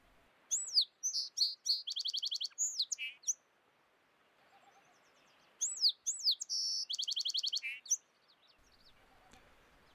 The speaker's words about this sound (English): Well, maybe not all these mnemonics ring the same way, but they all start with those three lone, solitary notes that are very, very distinctive. So let's have a listen to what it actually sounds like, the voice, the song of the song sparrow.